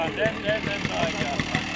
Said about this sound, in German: Erinnerungen werden wach und vielleicht auch ein bisschen Wehmut bei dem irgendwie doch vertrauten Klang der Motoren und Namen. BK, ES, TS, SA2 und naja, alles, was so in der DDR zu kaufen und damals zu kriegen war.